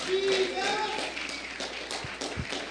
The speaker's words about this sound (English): If you believe it, clap your hands in the house of God this morning.